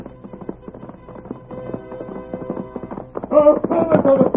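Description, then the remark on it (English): Rapid hoofbeats pound in a steady galloping rhythm, growing louder as the Lone Ranger rides back on his horse, with music swelling underneath toward the end. “Look at that horse come.”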